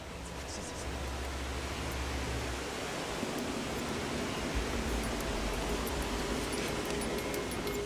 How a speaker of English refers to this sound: I'm deep in the Vietnamese jungle, making my way down a wild mountain river. Another waterfall.